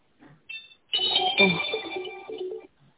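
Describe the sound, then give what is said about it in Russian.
A telephone ringtone for a second incoming call: a brief high electronic chirp, then a bright melodic tune of stepping synthetic notes that plays for about two seconds at moderate volume before cutting off. “Угу, второй звонок, господин.”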